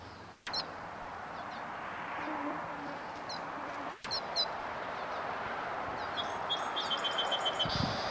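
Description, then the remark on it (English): Wild birds overhead give short, high chirps and tweets in scattered bursts, ending with a quick rapid run of calls, over a steady hiss of background noise. “Wild birds overhead.”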